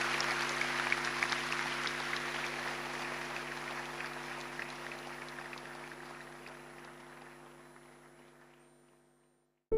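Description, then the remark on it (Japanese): Sustained applause from an audience for the guests at the close of the first-part ceremony of the 69th National Blind Welfare Convention, Link Station Hall Aomori, Aomori City, Japan; a dense crackle of many hands clapping that holds steady, then gradually thins and fades out, with a steady low hum underneath. “どうぞご来賓の皆様に今一度大きな拍手をお送りください。”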